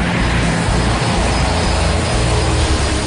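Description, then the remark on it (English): A steady, loud drone of the turbine engines powering the propellers of a Buffalo Airways Electra airliner, a constant roar with a faint high whine on top, running continuously without pause and no voices. “With turbine engines powering propellers, the Electra cruises at 350 knots, more than double the cruising speed of the C-46, and carries twice the payload, but at a price.”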